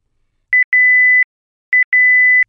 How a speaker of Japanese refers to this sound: 4. 時間を設定してから5秒後に、切りタイマー調理がスタートします。5. ブザーが鳴ったら切りタイマー調理が終了です。